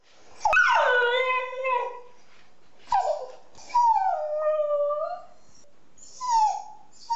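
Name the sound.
dog whimpering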